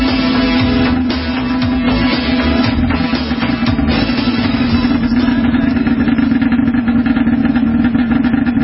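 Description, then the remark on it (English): A motorcycle engine, ridden in by a visitor, idles loudly and steadily at the Auto World Greasy Garage Studio, a constant low rumbling drone with a strong throbbing hum that holds for the full length without a break. “we just had a gentleman show up on his, well, you heard it, the motor. He's riding that bad boy like he's supposed to.”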